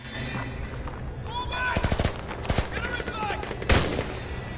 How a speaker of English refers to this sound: Patrick turns, spots Theo and starts running towards him, shooting.